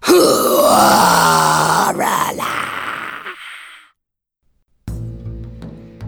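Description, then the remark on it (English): A voice imitates loud snoring with one long, rattling, groaning snore, then falls silent before a brief, different tonal sound starts near the end. “My little grandma snored as loud as a man.”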